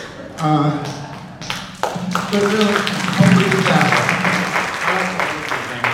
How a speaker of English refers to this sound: Oh my God, they did too. You got applause.